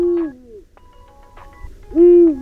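Two deep, drawn-out owl hoots, a Eurasian eagle-owl calling, the first fading off and the second louder, separated by a short quiet gap with faint tonal noises.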